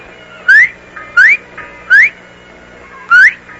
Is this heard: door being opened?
no